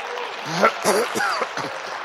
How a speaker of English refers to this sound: Well, there's the book of Revelation. Don't I deserve a little applause for that?